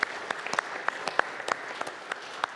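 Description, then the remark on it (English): An audience at Midland First church applauds its families, scattered sharp claps overlapping into a steady, moderately loud patter of clapping with a few louder individual claps standing out, and no voices heard. “And so I applaud our families today.”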